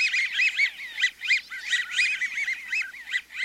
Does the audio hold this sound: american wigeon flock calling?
yes